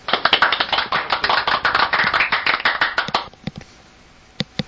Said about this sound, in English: We brought you on to a cheesy smattering of applause. How's that?